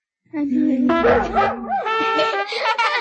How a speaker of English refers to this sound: the dog is singing very loudly. His friends can't hear him.